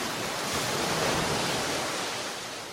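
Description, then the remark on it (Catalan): A steady, broad wash of sea surf, waves rolling onto a shore, fills the whole stretch at a moderate level with no voices, easing slightly toward the end. “Una estona només, deixem estar vora el mar per esperar l'alegria.”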